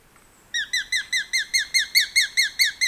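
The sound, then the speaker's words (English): A small, slender gray and rufous hawk calls a rapid, steady series of about a dozen shrill, piercing notes, loud, after a brief quiet moment, with no other sounds around it. “bird-catching predators, perch side by side, slender, dashing, gray and rufous hawks.”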